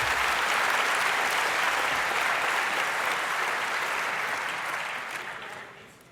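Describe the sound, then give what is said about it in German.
A crowd applauds steadily, a dense wash of many hands clapping at a constant loud level, then the clapping tapers and fades out over the last second or so. No voices are heard. “Wem gilt jetzt der Applaus?”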